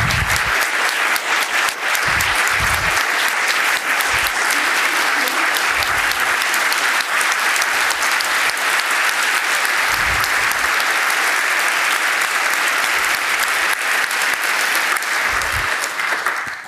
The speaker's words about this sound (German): Kommt jetzt auch noch mal ein warmer Applaus.